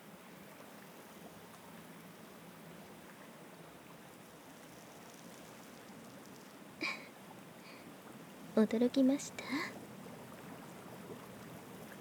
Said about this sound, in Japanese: このジェットバス機能もついているんですよ。ジェットバスの気泡は超音波を発生させる効果があるんです。それが体に当たってマッサージしているのと同じ効果が得られるんですよ。